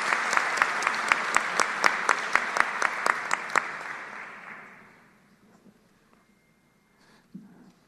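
An audience at a session of a university general council applauds the members of the newly approved commissions in a dense, steady wash of clapping with sharp claps punching through, lasting about four seconds before fading out to near silence.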